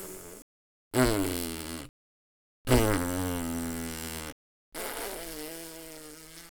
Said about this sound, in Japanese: おならから逃げないで。あなたにおならかがせるの気持ちいい。この状況たまらない。